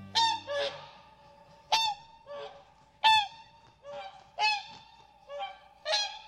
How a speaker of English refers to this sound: Swans like this Hooper swan are impressive animals. They're among the largest flying birds around today.